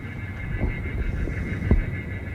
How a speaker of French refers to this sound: Le bruit qu'on entend là ? Ah, ce sont des cris d'oiseaux pour effrayer les oiseaux qui sont nombreux sur le terrain et qui sont les pires ennemis des avions. Oui, puisqu'ils risquent d'entrer dans les réacteurs.